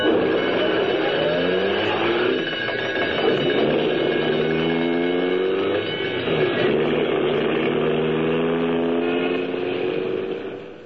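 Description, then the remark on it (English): An old ambulance's engine roars steadily and loudly while its wailing siren rises and falls over it as it drives through city streets on a call to 234 South Street, with rumbling street traffic noise filling the background throughout. “I've been driving this old baby for 8 rotten years. An ambulance, Mac, is a sacred thing.”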